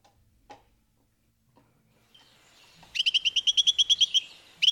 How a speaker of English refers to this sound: Carolina Wren.